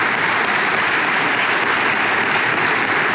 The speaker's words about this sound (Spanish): Le damos un aplauso también al presidente Piñera, en paz descanse.